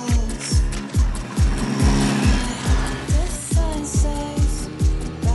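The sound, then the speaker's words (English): A moped engine putters and revs with a steady, throbbing rhythm of regular pulses as the moped, carrying two riders, pulls away and cruises through suburban streets past trick-or-treaters. It is fairly loud, with no talking. “Kelly sits on the back of the moped. They take off through suburban streets, cruising past trick-or-treaters.”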